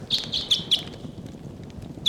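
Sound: flock of birds calling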